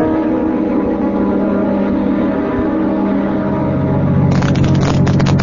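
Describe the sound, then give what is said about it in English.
A steady engine drone of a car driving along a road on the route out to a plant, loud, with a rougher, noisier surge near the end. No one speaks. “Well, my deputy and I'll drive out over the route between here and the plant and have a look for him.”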